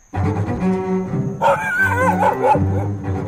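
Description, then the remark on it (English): A large golden doodle named Brady barks and yips repeatedly at a dog park in Chevy Chase Village, Maryland, its calls rising into whiny, pitched yelps midway through, over a steady low background hum with no one talking. “Brady's a big golden doodle.”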